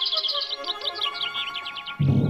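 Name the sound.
bird song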